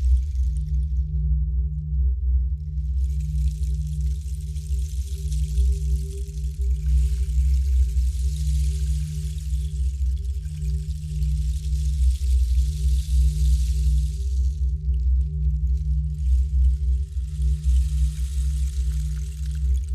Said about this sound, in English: I enjoy playing with these very much. They are rain sticks.